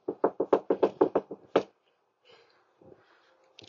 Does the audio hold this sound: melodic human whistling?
no